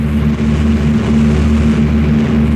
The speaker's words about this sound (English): Oh, stop that idle chatter, lad, and get those planes into the air.